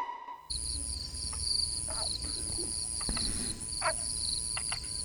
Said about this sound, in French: Une fois n'est pas coutume sur Radio Grenouille, vous entendez quelques grenouilles. Oui, nous ne le faisons pas souvent, mais parfois il faut les entendre car elles sont nombreuses, ces grenouilles.